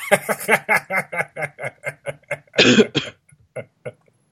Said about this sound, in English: Sorry, I missed the mute button on that cough.